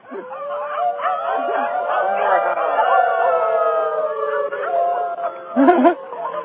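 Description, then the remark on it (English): Several people howl like wolves together from rooftops in Jalapa in the evening, long overlapping wavering cries held for several seconds, fairly loud, with a brief rougher burst near the end. “Howling from the rooftops of Jalapa.”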